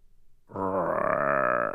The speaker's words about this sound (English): I swore I heard a growl when she came in.